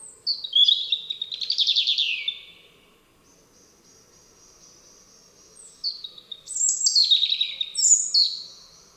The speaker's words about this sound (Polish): Wśród ptaków, których głosami Rudzik posługuje się w swoich improwizacjach, usłyszeć możemy między innymi kosa, piecuszka i drozda śpiewaka.